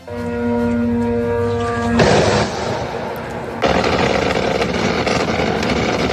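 A steady, harmonic engine buzz of Iranian drones drones for two seconds, then gives way to a loud burst of rough, crackling noise, followed by sustained rattling, gunfire-like din as the drones are shot down at night over Baghdad.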